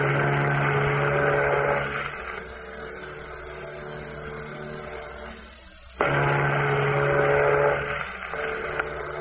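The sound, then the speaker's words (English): Two long, deep horn blasts from another ship approaching in the fog, each a steady low harmonic drone lasting about two seconds, separated by a quieter lull of rumbling hum. No one speaks. “That's no echo we're hearing. That's another ship. It does seem to be getting closer.”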